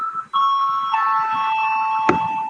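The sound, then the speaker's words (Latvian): A bell rings to call deputies to a vote they have requested, a steady electric ringing tone with a bright harmonic buzz that holds without pause, shifting pitch slightly partway through, with a brief click near the end. “Lūdzu zvanu.”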